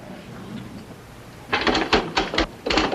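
After a quiet stretch of low room noise, a burst of rapid, irregular mechanical clacks begins as someone types on a typewriter, copying out an already written text, fairly loud with short pauses between clusters.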